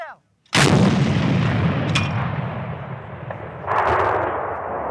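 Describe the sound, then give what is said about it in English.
A howitzer fired by soldiers training with heavy weapons at a military outpost near the Belarusian border. A sudden, deafening boom rolls into a long, rumbling echo, followed a few seconds later by a second swell of reverberating noise, with no voices. “This is a howitzer, something between a mortar and a cannon.”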